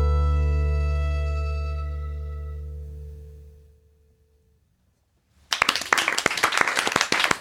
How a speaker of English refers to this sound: I clapped first that time